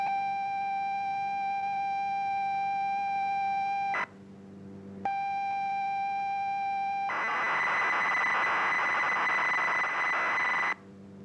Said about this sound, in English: And there it was. It worked. Across the county, dozens of people had captured these mysterious tones onto a cassette, played that cassette into their computer